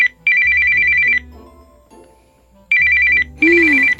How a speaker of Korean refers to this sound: 꼭 이럴 때 누군가 방해를 하죠. 그래요, 아까부터 울리는 이런 전화벨 따위가 말이에요. 응? 전화가 오는데 왜 안 받냐고요? 받아봤자 또 광고 전화일 테니까요.